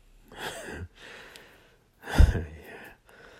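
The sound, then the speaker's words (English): A soft, breathy gasp, an airy intake followed about a second later by a sharper, louder catch of breath, with faint quiet breathing in between and no talking. “That little gasp.”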